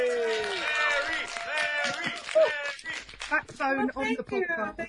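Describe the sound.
Several voices in a room cheer and whoop together for a co-host shown on the screen, in bright, overlapping shouts for a couple of seconds, then break into excited chatter; any clapping is hard to pick out beneath the voices.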